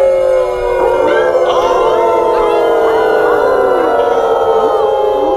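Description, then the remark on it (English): A chorus of many voices howls together like a wolf pack, overlapping rising and falling wails filling the whole stretch, loud with no talking. “We howl for you, Cutter, blood of 10 chiefs.”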